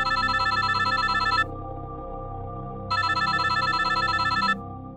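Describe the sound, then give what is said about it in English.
A telephone rings twice at 1:30 in the morning in a steady electronic trill, each burst lasting about a second and a half with a pause between, loud, with a low background hum underneath. “And the phone rang.”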